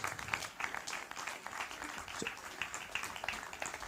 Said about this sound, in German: Bitte einen kleinen großen Applaus.